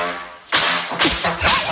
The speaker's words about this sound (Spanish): el hijo abría y cerraba la puerta del horno o empleaba utensilios de cocina